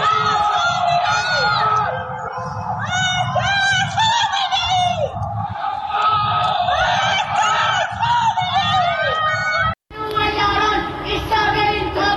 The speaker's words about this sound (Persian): سه‌شنبه شب 21 بهمن 1404، جرقه های آتشبازی حکومت میخندند، اما از پنجره های تاریک خانه ها فریاد های ضد حکومتی در دل شب پراکنده میشوند.